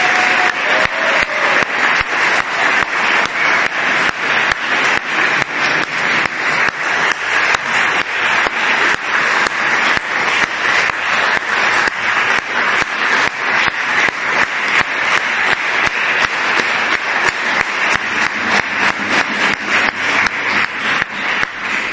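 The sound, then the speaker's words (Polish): Sustained applause from a large audience at a convention, thanking two Oblate fathers who helped prepare it, starting before the speaker had finished speaking. A dense steady wash of many hands clapping for over twenty seconds with no speech over it, fairly loud and even throughout. “Bardzo dobrze, że te oklaski tak się wymknęły spod kontroli.”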